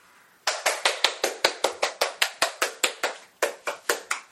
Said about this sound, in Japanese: 皆様拍手を持ってお出迎えくださいませ。